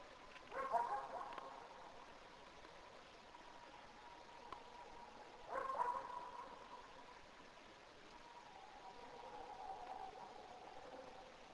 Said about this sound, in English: Look at that dog barking at it.